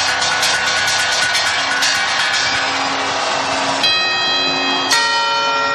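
Clock tower bells at the Puerta del Sol in Madrid ring out loudly over a busy, noisy background in a rehearsal of the New Year's quarters and chimes, with two distinct strikes near the end leaving long, shimmering tones that hang and slowly fade.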